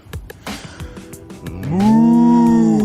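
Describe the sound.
A person, turned to look toward a slope, exhales in imitation of a cow with a long, loud, drawn-out moo after about a second and a half of quieter shuffling noises. The moo rises in pitch, then holds steady until the end.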